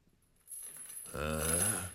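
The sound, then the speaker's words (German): Metallic clanking and rattling of chains dragged across a cellar floor starts after a brief quiet moment and grows louder. A low, groaning tone swells beneath it toward the end. “plötzlich vernahm er ein klirrendes Geräusch. So als ob jemand Ketten über den Kellerboden ziehen würde.”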